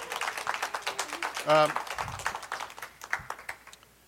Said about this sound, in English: You want to give our lovely actors a round of applause?